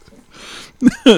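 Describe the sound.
A person imitates a dog: a soft breathy huff like panting, then two loud, short voiced yips in quick succession, the second slightly longer and rising in pitch.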